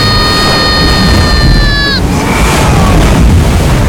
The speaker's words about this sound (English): Giant wave off the starboard side! She'll take us with her if it don't hold!